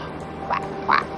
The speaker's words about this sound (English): Wait, can you hear that? It's quacking.